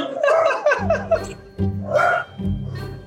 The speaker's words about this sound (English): And right now my dogs are going bananas. You hear that?